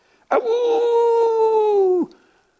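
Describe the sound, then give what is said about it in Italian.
A person imitates the howl of the story characters Vince and the leader howling in unison, with one loud, sustained note of about two seconds, holding a steady pitch that sags slightly before cutting off abruptly. Nothing else is heard. “Ululularono all'unisono Vince ed il leader, cercando di saltarle addosso.”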